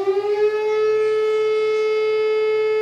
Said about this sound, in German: Ein schöner Morgen im August, Sommerferien in Niedersachsen, als plötzlich in Wohlstreck gegen 9:30 die Sirene heult.